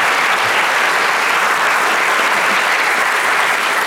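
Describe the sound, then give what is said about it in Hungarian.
Sustained audience applause for the panelists at the end of an Austrian election review show in Vienna, a dense, steady wash of many hands clapping at full volume throughout, with no voices rising above it. “nagy tapsot szeretnék kérni a panelistáinknak.”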